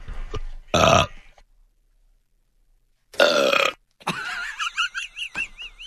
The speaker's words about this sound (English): that's why I asked him to go back and get the Simpsons Barney burp